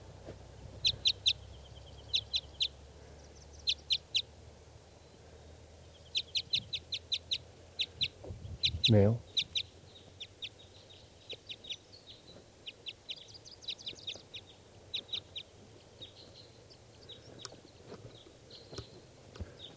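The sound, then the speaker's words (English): A single wild bird calls over and over in quick bursts of high, sharp chirps, steady throughout; a man briefly says a word partway through. “One lone wild bird here.”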